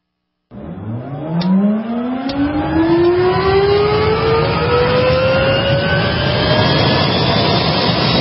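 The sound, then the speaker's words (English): A loud engine drone starts abruptly and holds steady, its pitch climbing slowly and continuously as if the engine were winding up, with no voices present. “You can listen to the engine moaning out his one note song.”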